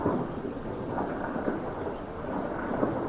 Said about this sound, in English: A live shot from the Saudi-owned satellite news channel Al Arabiya shows a high-rise on fire in the Sudanese capital, with burning debris falling from its top layers with the sound of explosions.